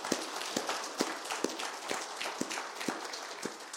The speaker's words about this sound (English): And some of the mothers said they deserve a round of applause. So let's give them a round of applause this morning.